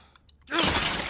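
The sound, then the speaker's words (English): After a moment of near silence with a few faint clinks, a thrown drinking glass of water suddenly shatters loudly, a bright, crashing spray of shards that keeps ringing for over half a second. “He throws the glass.”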